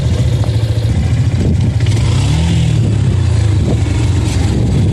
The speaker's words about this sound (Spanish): continuamos el viaje en esa moto, es un viaje que obviamente nunca voy a olvidar.